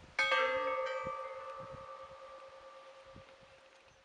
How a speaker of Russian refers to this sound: Действие первое. Звон колоколов.